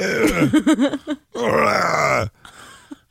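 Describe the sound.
Someone imitates fart noises with their mouth: a quick run of wobbly, buzzy blurts, then one longer, drawn-out raspberry, loud, with a faint trailing sound after.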